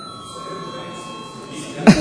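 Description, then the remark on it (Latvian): A quorum call bell rings in an assembly hall to call members to register for a quorum after a vote showed none, a steady, unbroken electric tone with bright overtones held for the whole stretch, while a short cough breaks in near the end. “Lūdzu zvanu.”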